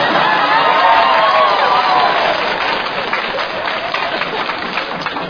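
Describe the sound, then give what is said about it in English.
A crowd claps and cheers loudly, with whoops rising over a dense wash of applause that eases slightly toward the end but keeps going throughout. “No, I meant the applause part.”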